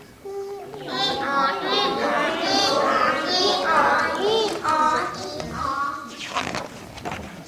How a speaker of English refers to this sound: The baby welcomed the donkey with his smile. The donkey sang his noisy song.